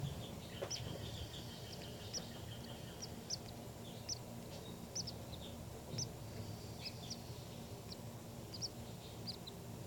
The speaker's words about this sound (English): These are the calls of the baby birds.